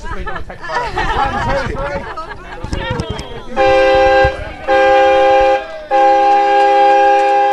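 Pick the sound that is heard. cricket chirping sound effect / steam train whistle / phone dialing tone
steam train whistle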